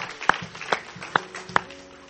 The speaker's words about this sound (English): Get a Lord a hand clap of praise again for our guests, our visitors.